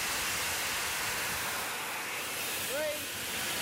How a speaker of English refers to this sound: And the safety valve flows at 220 pounds per square inch on this locomotive. And we've just got a little bit more than that. So it's blowing the steam off to atmosphere.